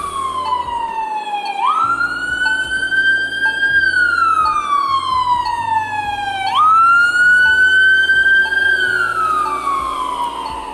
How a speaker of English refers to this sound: Y'all gonna see, y'all gonna hear them right there, police cars and shit on her show.